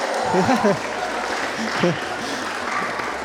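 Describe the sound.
A crowd applauds steadily throughout, a dense wash of clapping at fairly close range, while a man's voice talks over the start and again partway through.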